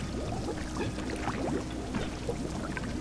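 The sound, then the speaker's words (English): Gallons of hot tar poured into a hiding place in a mine pour steadily for the full three seconds, a thick liquid gush with gurgling, bubbling flecks over a constant rushing wash. No one speaks. “The posse poured gallons of piping hot tar into my hiding place.”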